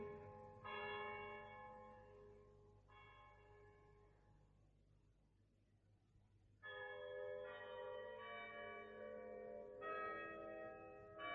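A clock strikes the hour with several slow, resonant bell tones, each ringing out and overlapping the next, with a pause midway before the strokes resume. No voices.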